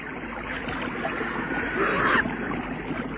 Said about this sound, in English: And they heard the sound of water.